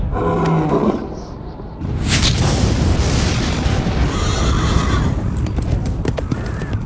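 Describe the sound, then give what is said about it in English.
A deep, thunderous roar from one of the four living things as the Lamb opens the first of the seven seals, loud, rumbling on for several seconds with what sounds like a white horse's whinnies and hoofbeats mixed in. No one speaks. “I heard one of the four living things speak with a voice like thunder.”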